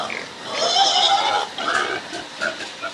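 animal, pigs grunting

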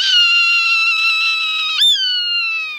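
bird, swainson's hawk raspy scream

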